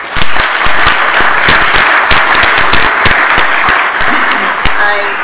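A crowd claps steadily for several seconds for manufacturers, a dense patter of many hands at moderate loudness, with no voices heard over it.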